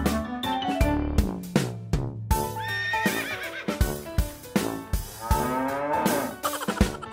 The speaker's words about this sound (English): Cows on the farm say moo, moo, moo.